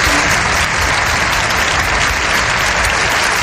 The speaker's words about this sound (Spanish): imagen del día es la comparecencia del presidente ucraniano Volodymyr Zelensky, telemáticamente, claro, en una sesión conjunta del Congreso y el Senado, que le ha recibido y despedido con una cerrada ovación.